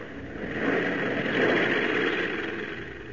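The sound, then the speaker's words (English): A steady, droning propeller plane engine hums continuously as the plane flies across the wilderness of northern Canada toward Lake Minto. A broad low-to-mid rumble with a faint high whine, holding even loudness throughout with no voices. “On across the unlimited wilderness of northern Canada, the plane wings its way, carrying not only Perry White and his party, but also the man who has vowed to destroy them.”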